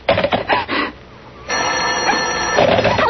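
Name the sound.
telephone bell ringing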